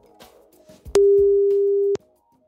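A telephone line tone sounds as a BNR radio host places a call about a job vacancy: one loud, steady, low-pitched beep lasting about a second, preceded by faint clicks and rustling and followed by near silence.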